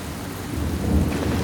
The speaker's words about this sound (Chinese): 大雨和冰雹哗啦哗啦地落了下来。